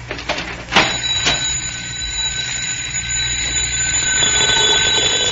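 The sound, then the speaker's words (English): A doorbell, rung by Mandrake the magician, rings in one long, steady burst, a bright high-pitched electric jangle that holds at an even loudness. A short sharp knock-like click comes near the start. “Look, he's going to ring again.”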